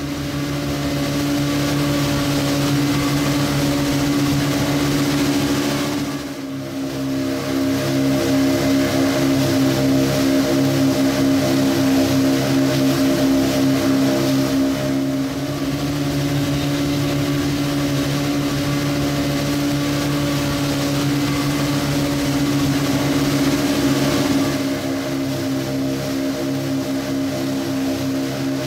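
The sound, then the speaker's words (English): A boat engine drones loudly and steadily throughout as the boat travels from north Bali, past Singaraja, toward Bangsal on Lombok, its low hum mixed with constant rushing water and wind noise, unbroken apart from a brief dip early on. No one speaks. “We are approaching Bangsal of Lombok. Refuel the boat and have a quick lunch here.”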